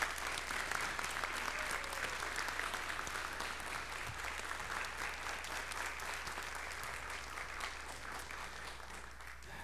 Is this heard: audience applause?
yes